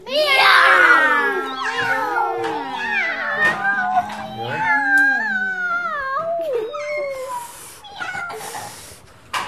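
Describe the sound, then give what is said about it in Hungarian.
Several children's voices imitate a cat in answer to being asked what the cat says, overlapping in drawn-out, rising and falling meows, loud, continuing for several seconds. “Mit mond a cica?”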